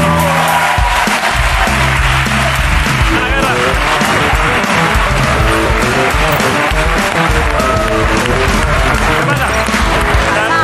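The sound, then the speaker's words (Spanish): The studio audience of the TV show La Resistencia applauds loudly and steadily for about ten seconds to welcome a guest singer, a dense wash of clapping and cheering that never lets up, with music or voices faintly mixed underneath. “Vuelve hoy, y así que no me queda más que decir su nombre, que la aplaudáis, porque es una crack.”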